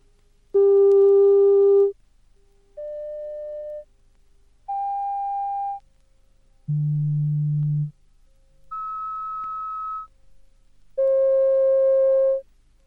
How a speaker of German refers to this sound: Dieser reine, einfache Ton oder Sinuston hat keine Oberschwingungen und demnach keinen ausgeprägten Klangcharakter. Sie hören verschiedene Sinustöne in verschiedenen Lautstärken.